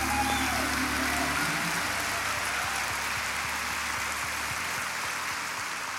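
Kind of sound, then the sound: crowd, audience clapping hands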